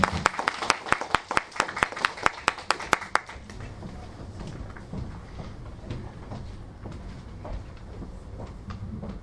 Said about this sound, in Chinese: 是来自我们中国软件行业协会共创软件分会的秘书长杨春燕女士，希望她给大家过来讲一下我们这个大赛的有关情况，希望大家给点掌声。